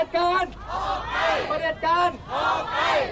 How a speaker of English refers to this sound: The Thai regime seems to go through mood swings, however, and back at the protest, police are allowing the crowd to scream, dictators, get out.